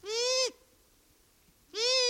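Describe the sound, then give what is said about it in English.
Two buzzy, nasal long-eared owl calls like a kazoo, each about half a second long, separated by a pause of over a second. Both are loud, with no one speaking. “That's the long-eared owl.”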